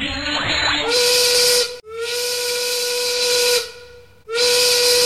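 A loud textile factory steam whistle blows three times, a short blast, a longer one that fades, then another starting at the end, each a shrill hissing tone with steam rushing beneath.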